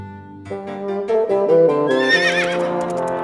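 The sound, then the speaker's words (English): A horse whinnies loudly as a carriage arrives at 5 o'clock, its harmonic call rising and wavering in pitch before trailing off, heard on its own with no talking over it. “At 5 o'clock, the carriage came.”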